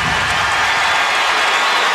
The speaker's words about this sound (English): And that'll put Adams to the free throw line. Fouls on Durant, much to the glee of the crowd. So Adams will shoot two.